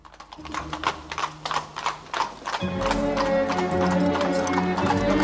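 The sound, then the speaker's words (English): Two horses pull a cab carriage away, their hooves clip-clopping in a brisk, steady rhythm. After a couple of seconds a heavier rumble of rolling wheels joins in and thickens the sound. “The two horses pull the carriage away.”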